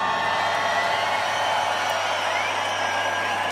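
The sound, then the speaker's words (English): A large crowd roars continuously, cheering and whooping in a dense, sustained wall of noise that stays loud and steady throughout, with no clear individual voices standing out. “Make some noise!”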